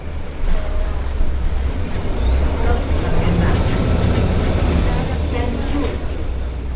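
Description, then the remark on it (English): A steady vaporetto (water bus) engine rumbles under rushing water and wind noise in Venice, on a ride to the island of San Giorgio, while a high whine rises, holds, then slowly falls away. “Well, the vaporetto has been safely negotiated and I'm now on the island of San Giorgio, looking at rather enviable views across the water at St.”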